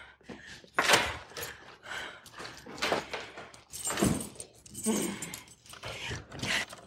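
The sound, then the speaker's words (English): Keys to a cash drawer jangle and clink in a series of irregular bursts, bright metallic rattles rising and falling over several seconds with brief pauses between handlings. “Open the drawer. I need the keys.”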